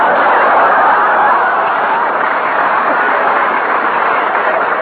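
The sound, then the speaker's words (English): A train pulls out of a station on track 8, bound through Illinois to New York State, a loud, steady rushing and rumbling noise that holds evenly for several seconds, with no voices over it. “Train now leaving on track 8 through Illinois to New York State.”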